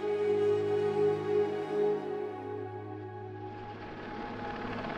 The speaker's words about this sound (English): The helicopters have been flying overhead for hours, trying desperately to winch people out of the sea to safety.